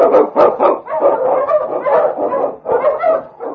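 King, an Eskimo lead husky on The Challenge of the Yukon, barks and bays repeatedly in a steady, loud run of rough woofs, with a few higher yips mixed in and no pauses between bursts, while blazing the trail through storm and snow.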